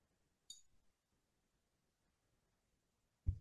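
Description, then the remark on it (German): Glasses are clinked together in a toast: a single bright glass clink rings out briefly, followed after a quiet pause by a dull low thump. “Mädels, ich weiß nicht, wie es euch geht, aber mein Mund ist trocken und wir müssen unbedingt mal wieder ein bisschen mehr trinken.”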